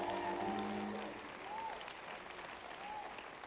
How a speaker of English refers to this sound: Let me see 25 grateful people. Give God a big old hand clap of praise for a second chance.